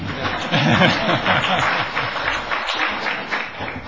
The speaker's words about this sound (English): You got one round of applause